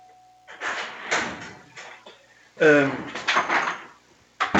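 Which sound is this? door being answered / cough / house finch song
door being answered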